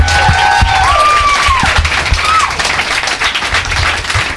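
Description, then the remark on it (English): A crowd applauds the guests of a show steadily, dense clapping filling the whole stretch at a loud, even level, with a few high whistles and cheers rising above it. “Let's have another round of applause for my guests.”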